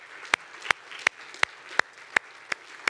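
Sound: audience clapping hands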